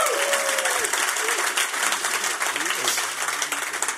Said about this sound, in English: I am very happy with the applause level, so that's working for me.